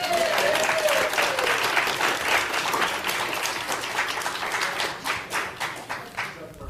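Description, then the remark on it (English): A crowd bursts into sustained applause, dense overlapping claps, then thinning toward the end as individual claps become more distinct. A brief whistle or cheer rises early on. “Big round of applause.”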